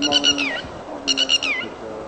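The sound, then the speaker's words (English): Birds chirp in two quick bursts of bright, repeated calls ending in falling notes, amid the concrete and steel of an idle sewage treatment plant in Baghdad, over a quiet, steady low hum with no voices. “At one of Baghdad's three main sewer treatment plants, there's little sound or movement except for the birds playing in the maze of concrete and steel.”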